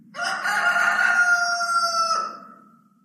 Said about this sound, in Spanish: Y en aquel momento, cuando aún estaba hablando, cantó un gallo.